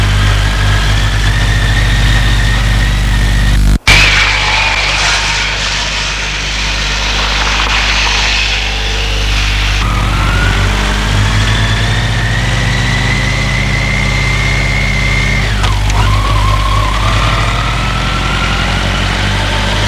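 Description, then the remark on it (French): The small motor of a red scooter idles steadily, its low, even hum running unbroken throughout, with a sharp click early on and a slight shift in pitch partway through. “lui a acheté un scooter rouge.”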